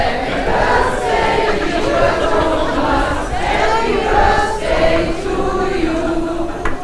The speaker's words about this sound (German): Kein Wunder, dass seine Lesung in der Buchhandlung Graff in Braunschweig schon seit Wochen ausverkauft war. 2 Tage nach seinem Geburtstag ließ es sich das Publikum nicht nehmen, ihrem Thomas ein Geburtstagsständchen zu singen.